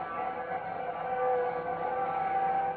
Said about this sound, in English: Let me see if I can get through a window. You can hear the bells and the whistles out there.